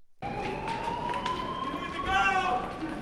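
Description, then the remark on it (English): A building alarm siren whoops steadily with a rising tone through the Capitol in Washington during an evacuation, over hurried footsteps and a murmur of crowd voices as hundreds of people run from the building. “As sirens whooped through the Capitol, hundreds of people ran from the building, urged forcefully by Capitol police to flee for safety.”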